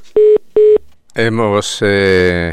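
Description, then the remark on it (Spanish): Two short, identical telephone line beeps sound in quick succession as a phone call to a guest connects, clear, followed immediately by a person starting to speak. “Hemos dejado el teléfono abierto y estamos ya con nuestra invitada hoy en Junto A.”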